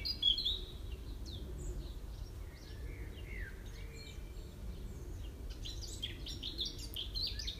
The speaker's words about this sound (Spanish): Acompañado del canto de estos pájaros.